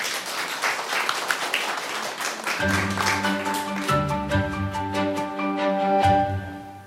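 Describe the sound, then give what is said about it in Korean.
A lecture audience breaks into steady, dense applause to welcome a talk on humanities for mothers, and after a couple of seconds a bright instrumental tune with sustained notes begins playing over the continuing clapping. No one speaks. “박수로 청해 드릴까요?”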